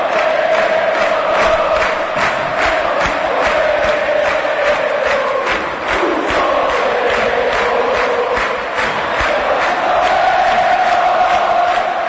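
A huge stadium crowd of azulgrana supporters roars and chants without pause for about twelve seconds, celebrating their team's 4-1 win in a Copa Libertadores round-of-16 football match: a loud, dense wall of voices with a sustained sung tone running through it and no one speaking over it.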